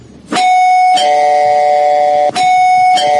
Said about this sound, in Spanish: Ahí está, suena el timbre de Papa John's, por supuesto.